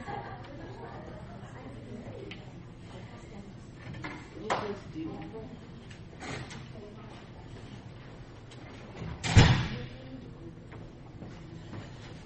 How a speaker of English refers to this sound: I'm going to shut the door and then we'll get rolling.